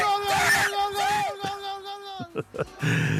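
A commentator lets out a long, joyful scream over a goal from a shot by Tere Morató, loud and sustained with a wavering pitch, breaking into a few short excited bursts and crowd-like noise at the end.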